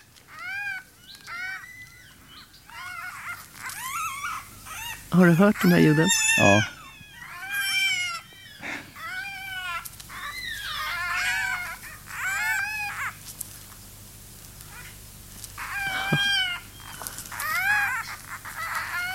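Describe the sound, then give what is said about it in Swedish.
Fox cubs calling in a busy chorus of high, whining chirps and yelps, repeated in quick irregular bursts with a louder squabbling cluster midway; a brief spoken exchange occurs among them. “Jag vet inte, om vi ska lyssna på hur det låter ifrån rävungar.”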